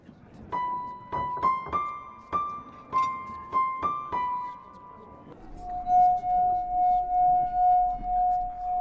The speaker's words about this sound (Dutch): Wat doe je? Ik laat mijn glas zingen. Mm. Met mijn tong en mijn vinger.